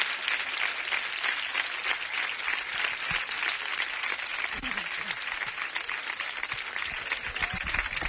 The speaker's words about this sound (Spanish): Vamos a darle un fuerte aplauso a David para que empiece ya a darse cuenta de lo que le espera el día 5.